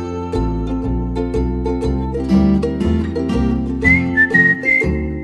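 A whistled melody rises clearly over a steady instrumental backing with rhythmic bass and chords, the whistle sustaining bright, high notes in the latter half; no one speaks.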